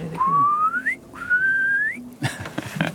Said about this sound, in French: Ouais, c'est le courlis, là. Ah, oui. Il chante, en fait. Quand il chante, il crie « Courlis, courlis ».